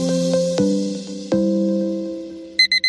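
An alarm clock goes off: a few ringing, sustained chime tones fade out, then three quick, bright electronic beeps sound loud at the end. No one speaks.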